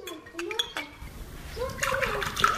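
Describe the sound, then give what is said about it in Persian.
A mother fills a glass with tea in a steady, splashing stream that swells in loudness over about a second and a half, following a short moment of murmured voice. “مادر جان، تو یک گلاس چای دگام پر تو، چی یک مزه دار.”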